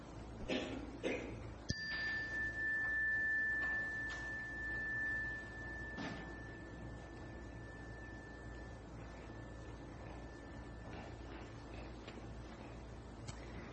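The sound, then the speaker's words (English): A chime is struck once, giving a clear, steady high ringing tone that lingers and slowly fades over roughly ten seconds against a faint background hiss, with no talking. “And when I ring the chime, open your hearts and open your hands and send those to him.”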